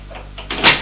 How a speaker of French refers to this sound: On frappe à la porte de la chambre.